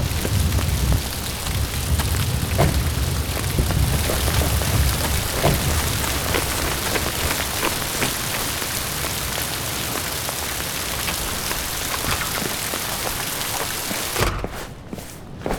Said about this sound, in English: Let me dry you off first. This is ridiculous. It's just rain. No, it's not.